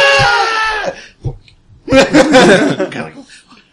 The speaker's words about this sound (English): And then the screams of that forest.